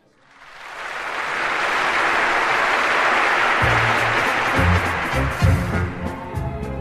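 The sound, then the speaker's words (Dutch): A large concert audience in the Concertgebouw in Amsterdam, recorded on 28 June 1970, rises from silence into sustained, roaring applause and crowd noise, with low musical tones starting to sound beneath it in the second half. “Het publiek is er al.”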